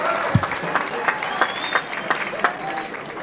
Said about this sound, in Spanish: Recibámoslos pues con un fuerte aplauso a este niño que viene.